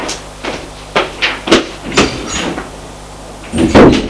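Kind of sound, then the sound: household object, door slamming shut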